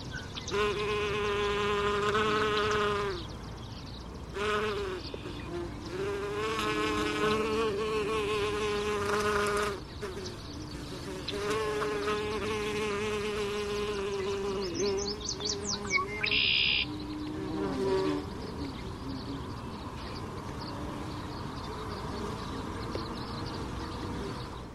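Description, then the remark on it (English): A small bee or wasp, about 3/4 cm long with a striped orange abdomen, buzzes while foraging on a milkweed plant about 1/3 meter from the microphone, a steady, harmonic drone that rises and falls in pitch as it moves, pausing briefly between bursts. Faint bird chirps sound in the background. “That was a bee or a wasp, I'm not sure, foraging on a milkweed plant.”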